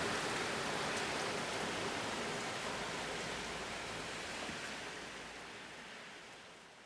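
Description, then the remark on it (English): Steady, dense hiss of heavy rain pouring outdoors, loud, a continuous wash of noise that eases slightly toward the end. No voices are heard. “I don't think I can even make it to the bus without getting soaked, but I don't know.”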